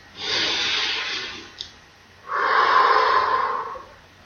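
A single slow, deep breath taken during a guided affirmation exercise: a long airy inhale, a brief pause, then a fuller, slightly rougher exhale. No one speaks.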